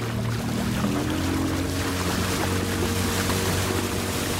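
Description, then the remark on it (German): A boat motor hums steadily as the boat travels on a river through forest, with water rushing and splashing along the hull, a continuous loud drone with wind noise and no voices. “Will er alle seine Gemeinden einmal im Jahr besuchen, dann ist er permanent unterwegs, mit dem Boot und in Flipflops.”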